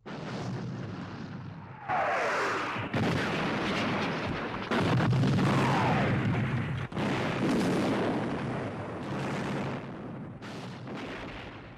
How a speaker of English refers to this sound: Suddenly whistling could be heard and explosions as oil-filled projectiles exploded against the dockside buildings.